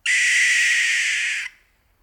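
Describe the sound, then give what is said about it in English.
A barn owl's screech as it descends from the rafters of a barn: a single harsh, hissing scream lasting about a second and a half, loud, cutting off abruptly into silence. “That, of course, was a barn owl.”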